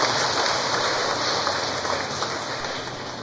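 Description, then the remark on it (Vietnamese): A church audience claps steadily to welcome a woman healed of cancer who comes up to share her story, a dense, even wash of many hands that stays loud throughout and eases slightly toward the end, with no voices on top. “Mấy chị em trong một tràng pháo tay để gặp gỡ người chị em ấy.”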